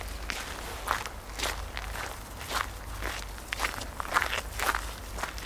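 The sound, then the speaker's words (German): Quick footsteps walking at a brisk, steady pace as people hurry after someone, each step a soft crunchy thud with a slight rustle, continuing for several seconds without any talking. “Gehen wir ihr lieber schnell hinterher.”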